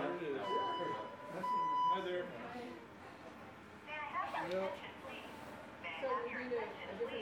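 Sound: building alarm sounding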